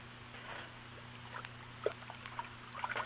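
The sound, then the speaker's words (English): Faint, irregular sloshing and light clinks of water being stirred in a pot while waiting for it to boil, quiet, over a steady low electrical hum with no voices. “What on earth are you doing, Sam? I'm stirring the water.”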